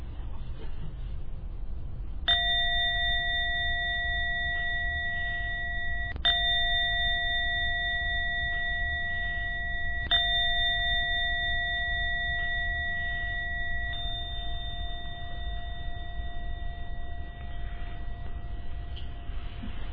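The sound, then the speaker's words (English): A meditation gong is struck about four times, a few seconds apart, to end a meditation, each stroke renewing a clear, sustained metallic ring that lingers over a low background hum. “I'm going to ring the gong.”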